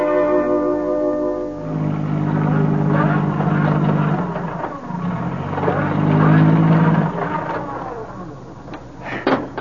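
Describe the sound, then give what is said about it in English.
A car stuck in a ditch revs its engine hard while its wheels spin without grip, the whine rising and falling in repeated surges, loud, after a brief steady tonal hum at the start. “No use, Sam. Your car wheels just keep spinning.”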